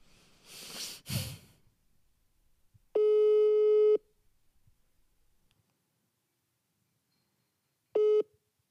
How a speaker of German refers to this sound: Ich rufe sie jetzt einfach mal vom Handy an. Das ist dann jetzt auch der Sound, den wir da haben, weil sie weiß das ja nicht.